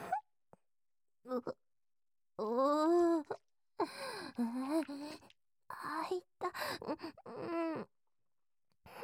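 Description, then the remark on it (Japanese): A dog yawns several times, each yawn a drawn-out, whiny groan that rises and falls in pitch, separated by short pauses. “あくびするね。”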